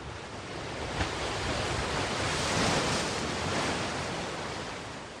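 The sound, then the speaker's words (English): Ocean waves wash steadily onto a beach, a broad continuous roar of surf that swells gently toward the middle and eases off again, with no voices present. “Peaceful sound, right? The waves hitting the beach.”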